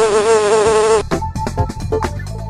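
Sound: bee buzzing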